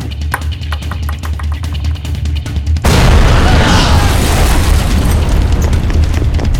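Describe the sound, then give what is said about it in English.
A small explosive charge the size of a 9mm bullet, its switch set for 3 seconds, detonates in a building: a low, steady hum with rapid faint ticking gives way to a sudden loud explosive blast, followed by a thick, roaring rumble that carries on for several seconds. “Before the roar of death had finished echoing down the halls of the mind-breaking building”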